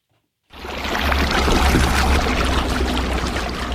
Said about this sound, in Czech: Celým tímto pozoruhodným městem protékají potoky horské pramenité vody, absolutně průzračné a čisté.